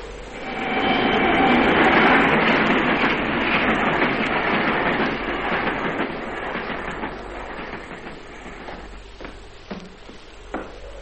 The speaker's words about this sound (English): and now I'm going to switch that ghost train onto the siding.